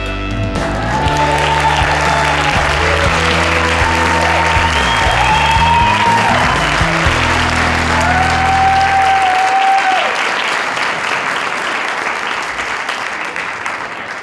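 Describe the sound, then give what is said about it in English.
A studio audience applauds steadily for about fourteen seconds, a dense, even wash of clapping over background music that fades out partway through, leaving the applause on its own. “And thank you, audience, for showing your appreciation.”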